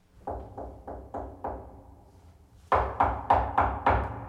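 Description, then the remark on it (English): Tapping on a door in two bursts: five soft, evenly spaced knocks, a short pause, then five louder, sharper raps with the same steady rhythm. No voices. “But that night she heard the tapping at her door again.”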